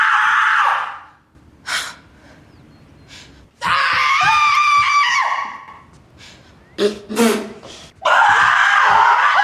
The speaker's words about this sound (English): Well, we should do that every afternoon. Yeah, we should. Tremendous, tremendous feeling. That was quality screaming there.